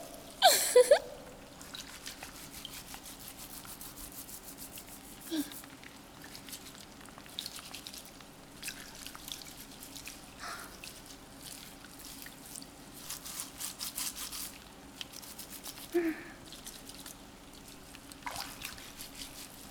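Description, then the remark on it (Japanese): Wet squishing and rubbing of shampoo lather being worked through hair up to the top of the head, coming in irregular bursts of foamy scrubbing with soft crackles and occasional louder squelches, and no voices. “このまま頭のてっぺんまでシャワシャワシャワワワ。”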